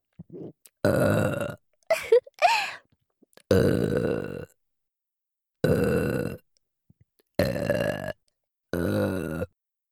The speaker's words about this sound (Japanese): お姉さんが みんなのためにいくらでもエロゲップしてあげちゃうぞ。